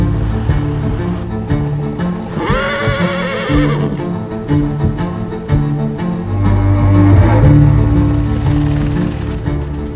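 A horse lets out a loud, shrill whinny that rises and falls, followed later by a fainter second neigh, all over a steady low droning background with no talking.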